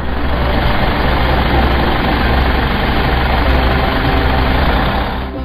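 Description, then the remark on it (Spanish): A large bus engine idles steadily at a stop, a loud, continuous low rumble with a faint rattle, holding even throughout and easing slightly at the very end. No one speaks. “Están una madre y un hijo en la parada esperando el autobús.”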